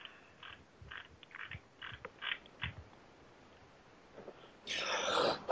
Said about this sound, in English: I'm sorry. Just one second. Get a cough.